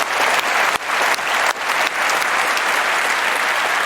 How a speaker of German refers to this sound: Nein, Applaus.